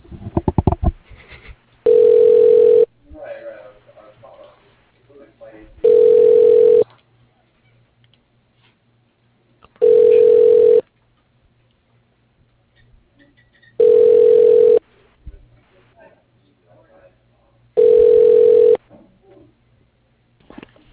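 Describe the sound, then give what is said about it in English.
A telephone rings five times over a phone line as a caller tries to reach a man at a company's office, each loud, steady ring lasting about a second with roughly three-second gaps, and nobody answers. Faint murmuring fills the pauses. “Sir, he is not picking up. He's either away from his phone or not in the office.”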